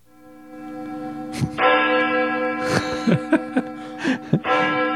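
A large bell tolls with long, sustained ringing overtones, struck repeatedly at uneven intervals, loud with no voices, like the ominous opening of a rock song.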